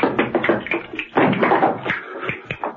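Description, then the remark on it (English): Rapid, rhythmic clicking of a pair of castanets mixed with sharp heel taps, loud, the bursts rattling in quick flurries with brief pauses between them and no voices, as John Steed enters a room from the kitchen clicking the castanets and raps his heels. “John Steed entered the room from the kitchen, clicking a pair of castanets.”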